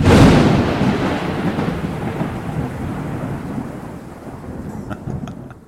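A loud thunderclap opens, then a low rumble rolls on and slowly fades beneath steady rain, with a few faint drips near the end. No one speaks.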